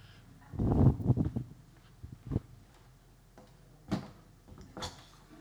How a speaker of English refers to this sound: I'm just going to close this door.